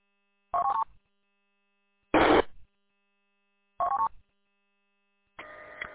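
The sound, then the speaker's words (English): Four short electronic radio activation tones for a county siren test at 1300 hours on a cloudy afternoon, each a brief buzzy beep burst separated by roughly a second of silence, clear, with no talking. “All tones have been sent.”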